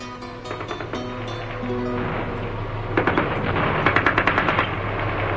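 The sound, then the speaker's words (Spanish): Gunfire sound effect in an audio drama: the first shots and grenade explosions of an attack. Bursts of rapid gunfire crackle over a low rumbling background, growing denser and louder midway with a rattling series of shots, with no voices. “Los primeros disparos y la explosión de las primeras granadas sumieron a Teresa en tal estado de terror”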